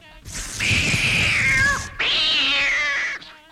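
A cat yowls loudly in two long, drawn-out wails, the first rising and bending in pitch, the second steadier, with a brief break between them.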